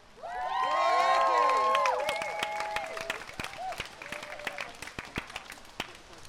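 A crowd breaks into applause mixed with loud whoops and cheers, then the cheering dies down and the clapping thins out to scattered, irregular claps over several seconds.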